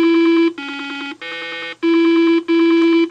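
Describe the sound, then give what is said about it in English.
Electronic memory game toy tones from Milton Bradley's Simon, a late-1970s four-tone toy: five buzzy, steady beeps of about half a second each, stepping between a few different pitches with short gaps between them, loud and with no voices. “By the late 70s, toy and game makers Milton Bradley proved that with just four tones, you could make a toy that helped define a generation.”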